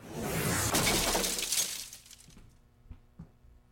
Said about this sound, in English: Could you stop crashing through the cabin top of my boat, you guys?